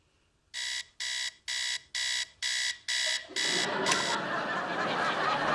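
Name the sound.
alarm clock ringing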